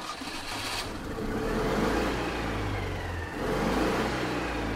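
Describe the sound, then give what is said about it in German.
A grandmother's car engine revs up and accelerates as she drives off, its low drone rising in pitch, dipping briefly, then surging again. The sound is steady, with no voices. “Endlich sitzen alle unten im Auto von Großmutter Carola. Alle, außer dem Vater, der wie immer keine Lust zum Osternester suchen hat. Die Großmutter gibt Gas.”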